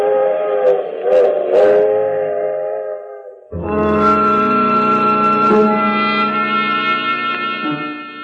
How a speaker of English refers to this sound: In Sooner Falls, I watch the train continue on to New York.